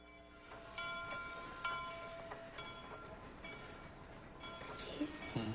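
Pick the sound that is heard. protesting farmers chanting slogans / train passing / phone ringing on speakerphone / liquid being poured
train passing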